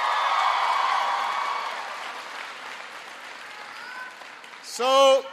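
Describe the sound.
Sustained crowd applause, loud at first and gradually thinning out over several seconds, ending with a brief burst of a voice speaking over the last clapping.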